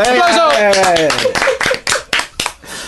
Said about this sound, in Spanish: Bravo, enorme. ¡Aplauso!